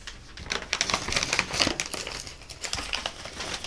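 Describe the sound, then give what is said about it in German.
Christmas gift wrapping paper crinkles and rips in a busy, irregular flurry of rustling as a present is torn open, with no voices over it. “Mal gucken, was im ersten Geschenk drin ist.”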